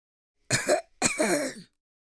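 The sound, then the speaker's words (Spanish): A short, dry cough in two quick rasping bursts, the second slightly longer, with no talking around it. “Soltó una tosecita seca a la entrada de la cueva.”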